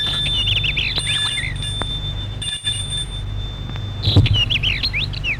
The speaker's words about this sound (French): Le portail s'ouvre. Il entre dans le parc. Sonne à la porte d'entrée.